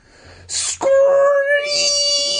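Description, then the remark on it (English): A brief hissing rush gives way to a loud, piercing scream in the night that holds a high, steady pitch for about two seconds, shrill and sustained, with no talking. “Another shriek fills the night.”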